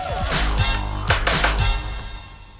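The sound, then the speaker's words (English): A man coolly knocks on a woman's front door at the end of her garden path: a few firm knocks, one, then a quick cluster of three, fairly loud, with a low resonant thud under each rap and a faint ringing tail afterward. “plucks a flower from one of her pots, pulls at his macho collar, and coolly knocks on her door.”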